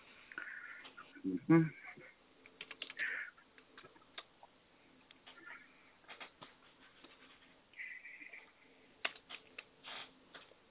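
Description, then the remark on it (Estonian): Quick, irregular clicks of someone typing on a computer keyboard, fairly quiet, in uneven bursts with short pauses, while low voices murmur in the background. “Kirjutad? Jah, kirjutan.”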